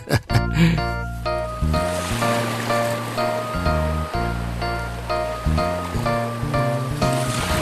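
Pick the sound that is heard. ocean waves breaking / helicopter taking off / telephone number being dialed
ocean waves breaking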